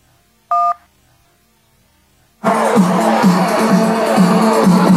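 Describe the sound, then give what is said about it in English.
One short, clear telephone keypad tone from a single button press in a voicemail menu, followed by quiet, then a loud, dense burst of crowd-like noise filling the second half. “If you want to hear the next voicemail, please press the 1, press the number 2 to save only this message, and press the number 3 to delete this message.”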